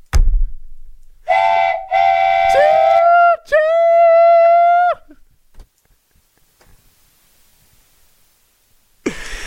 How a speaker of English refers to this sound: The train. He was on a train. Train. It's a train.